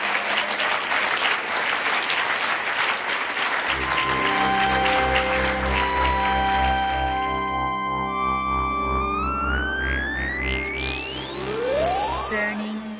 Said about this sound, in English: Okay, so thank you so much. Maybe a round of applause for all of our guests.